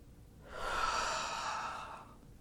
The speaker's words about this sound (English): I want you to breathe out, thinking of yourself as breathing out your stress and worries.